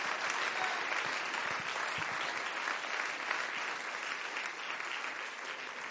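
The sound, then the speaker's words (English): A church audience claps their hands for the Lord in a steady, dense wash of applause that holds at a constant loudness for the full six seconds, with no voices standing out. “Let's give the Lord a hand clap now.”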